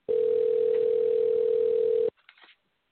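A single two-second burst of a steady telephone ringback tone, loud and thin over a phone line, cutting off abruptly into near silence with a few faint clicks.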